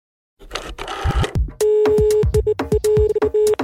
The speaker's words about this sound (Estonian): Lõbus mulin taustal tähendab, et proovime arvuti kaudu saada ühendust Iisraeliga,